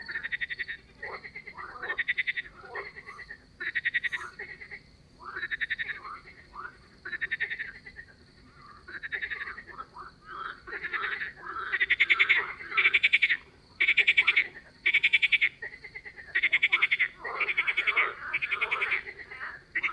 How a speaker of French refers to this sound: L'exercice des grenouilles a été apprécié de plusieurs stagiaires et on les entendra à plusieurs reprises.